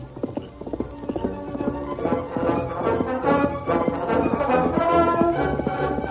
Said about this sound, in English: the masked man set a furious pace with the mighty stallion Silver.